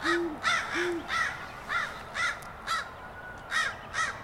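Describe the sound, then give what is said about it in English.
A crow harassing an owl caws over and over in a steady, fairly quick rhythm, about eight harsh calls, while the owl gives two low, soft hoots underneath near the start. “Ooh, a crow's gonna harass it too, because owls will take almost anything, including baby birds.”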